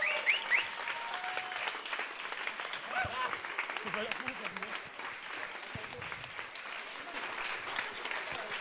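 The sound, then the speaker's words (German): Audience applause in Erfurt, the biggest of the evening, given for the host, fills the whole stretch, a dense, steady crackle of many hands clapping at an even loudness, with a few voices and whistles mixed in near the start. “Hier für euch ein Applaus, ein 10.000 Punkte Applaus”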